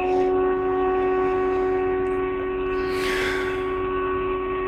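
storm sirens wailing

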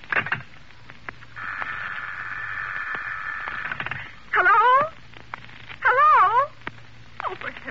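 malfunctioning telephone line noise

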